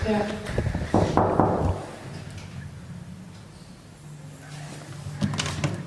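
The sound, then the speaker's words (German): A handful of sharp knocks on a door, followed by a few seconds of quiet, then another brief clatter of door noise near the end. “Klopf mal hier.”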